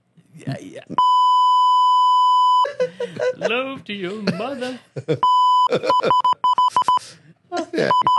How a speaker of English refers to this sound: Is that Morse code?